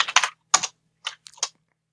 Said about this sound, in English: your typing is extremely audible.